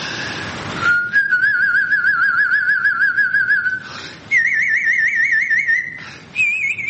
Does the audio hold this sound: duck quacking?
no